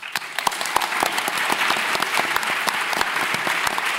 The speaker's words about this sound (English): And if we could just give them very short rounds of applause, sorry, to because of my chairing.